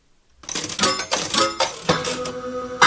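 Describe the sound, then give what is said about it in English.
A cascade of coins clattering out of a slot machine, a bright, continuous metallic jingle with repeated ringing bursts and clinks, loud and steady throughout with no voices. “Loop slot machine 2.”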